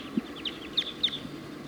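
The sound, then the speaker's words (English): A flock of birds that has just taken off from the top of a pine tree circles and calls overhead, with a quick scatter of high, thin chirps overlapping in short bursts, fairly faint and outdoors, with no one talking. “and a bunch of birds just took off out of the tree and now are circling.”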